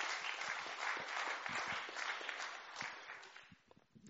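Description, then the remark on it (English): A crowd applauds steadily for performers from the Hub Dance Club and Royal Holloway Dance Society, a dense wash of many hands clapping at once that thins out and fades toward the end, with no one speaking over it. “Let's give them another little clap.”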